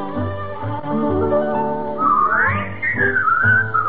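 A bright whistled melody swoops upward and then glides along over a warm, full musical accompaniment, sounding steady and fairly loud as part of a song.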